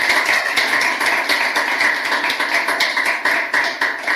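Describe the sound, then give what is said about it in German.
An audience applauds steadily at the end of a talk, a dense patter of many hands clapping at once with sharp crackling hits, loud and sustained throughout with no voices. “Erstmal Applaus.”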